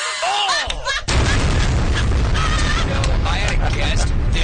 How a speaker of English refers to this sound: Oh, that was such a delayed explosion,